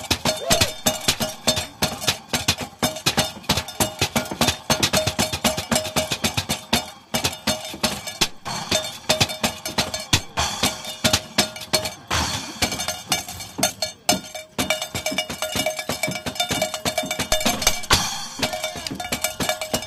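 A devil's violin folk percussion instrument is played at Tiroler House: a steady, rapid clatter of metallic strikes with ringing bell-like clinks and jangles, loud and continuous throughout, with no one talking.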